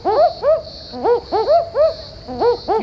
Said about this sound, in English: It must be a nocturnal bird that sounds a lot like a woofing dog. A barking owl. Can you hear its double woof woof?